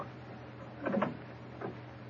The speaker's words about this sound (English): Easy with the door. Careful.